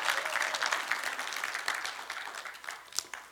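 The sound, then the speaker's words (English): An audience claps steadily, a dense wash of many hands with occasional sharper individual claps standing out, fairly loud throughout and fading slightly toward the end. “So that's how, keep clapping.”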